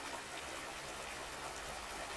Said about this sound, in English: It's just a river. I mean, it's a pretty big river, but just a river.